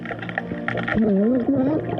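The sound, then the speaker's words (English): Muffled underwater audio from a recording of a wedding held underwater, with a low, steady murk; after a second, warbling voice-like tones glide up and down, sounding gurgly and strained through the water. “Not gonna lie, kinda sounds like someone's drowning.”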